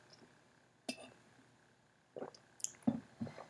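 sipping water

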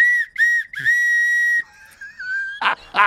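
whistle blown

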